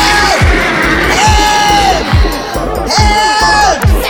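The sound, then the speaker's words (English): Loud, theatrical screaming and shouting from several voices, with drawn-out yells rising and falling over a dense, crowd-like din and steady rhythmic thumps underneath. “I think you could do a little bit better with the screaming and shouting.”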